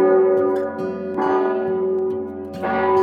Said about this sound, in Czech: Zvon je rozezváněn ručně, jako všechny zvony v katedrále svatého Víta, Václava a Vojtěcha. Na jeho obsluhu jsou potřeba hned 4 zvoníci, 2 a 2 proti sobě tahají lana, aby nakláněli hlavu, která drží za korunu zvon.